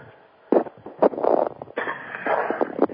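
Someone with a slightly scratchy throat clears it during a BBS Radio show, with a few short, harsh bursts followed by a longer, gravelly rasp, fairly loud and with no speech over it.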